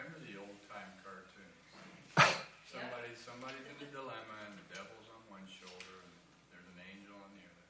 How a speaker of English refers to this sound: Would you check out there? I heard the door out there. I'm not sure. Just maybe take a peek, see what's happening.